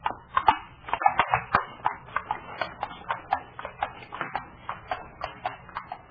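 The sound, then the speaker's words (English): Steady clip-clop of the hooves of mares pulling a horse-drawn carriage, a brisk even rhythm of sharp knocks on a hard road, moderately loud with no voices. “Perhaps when you have gentle horses. They used to be quite bad-tempered.”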